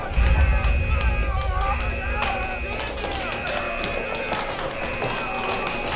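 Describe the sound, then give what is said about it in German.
A dense crowd of panicked passengers rushes toward escape pods with many rapid, overlapping, trampling footsteps pounding, mixed with frantic shouting and voices over a constant rumbling din. “Schnell, steh wieder auf. Sie trampeln dich sonst tot.”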